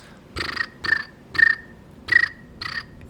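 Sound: voice imitating cricket chirping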